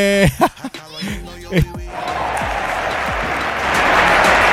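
A few seconds of vocal sounds give way to steady hand clapping, a dense, even run of sharp claps that continues to the end at a constant loudness.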